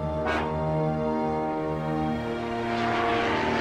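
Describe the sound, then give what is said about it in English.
An unmanned drone aircraft flies by at Creech Air Force Base in the Nevada desert, with a steady, loud propeller-engine drone, a continuous harmonic hum that holds level throughout with a faint whooshing rise near the end. “Drones are these spooky-looking, unmanned flying objects.”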